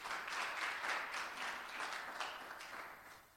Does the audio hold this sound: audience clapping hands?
yes